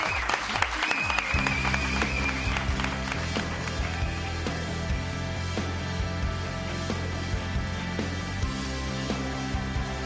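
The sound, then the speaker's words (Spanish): Steady, dense applause for host Pepe Domingo Castaño at the opening of COPE radio's Tiempo de Juego on 27 August 2010, before the European Super Cup match Atlético de Madrid vs Inter Milan, runs through the whole clip at a fairly loud, even level, with sustained tones humming underneath the clapping. “Es que te tengo que aplaudir.”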